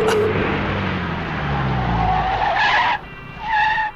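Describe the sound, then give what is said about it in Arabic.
A car moves along the street with a steady road rumble, then its tires squeal sharply in two short bursts near the end as it stops at a green pedestrian traffic light, loud, with no voices. “انظروا، لقد توقفت السيارة، إذن مسموح لنا الآن العبور.”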